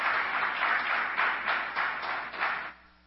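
A crowd applauds steadily, many hands clapping in a dense, continuous wash with slight pulsing swells, then fading out near the end.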